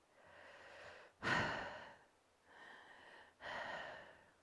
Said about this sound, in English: Just hearing them breathe around you. Until you can't tell whether you are breathing or being breathed, are you hyperventilating?